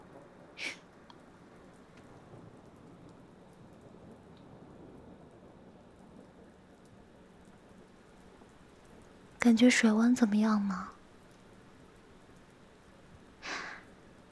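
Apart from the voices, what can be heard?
rain falling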